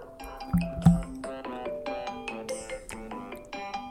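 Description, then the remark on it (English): A standard iPhone ringtone plays on its own, a bright, bouncy string of quick plucked, marimba-like notes in a repeating melodic pattern, fairly loud and steady, with no voices over it. “Is that the worst ringtone ever?”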